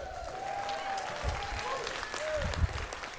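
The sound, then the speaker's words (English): A crowd applauds a band steadily for about three seconds, a dense, even wash of clapping with a few faint whoops and cheers rising above it. “Give it up for the band.”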